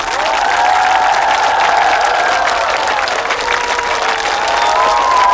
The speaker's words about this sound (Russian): За рояль у нас солистка Лондонской филармонии Ее Величества Ольга Беркович. Попросим Ольгу на сцену бурными аплодисментами.